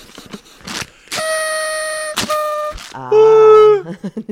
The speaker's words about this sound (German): Ah. Meiner geht nicht. Der musst du doppelt machen. Ich habe zwei Luftrüssel mitgebracht, um die angespannte Grundsituation im Land etwas aufzulockern.